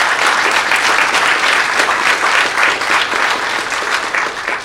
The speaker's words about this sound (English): And thanks a lot for that little clapping ovation for my pal Harv, who passed away, man. I really appreciate that.